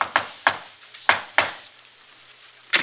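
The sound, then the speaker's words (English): Sharp, lively knocking on an apartment door: two quick raps, two more, then a single rap after a pause. The knocks sound crisp. “From the way he knocks at the door, she knows he's riding high.”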